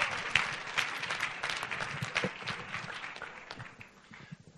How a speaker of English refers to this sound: Give Jesus a clap, folks. Yes, yes.